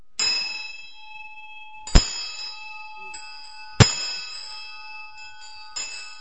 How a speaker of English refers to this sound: So there are all these different ways of ringing the bell. And sometimes it says ring the bell once every line, so you go...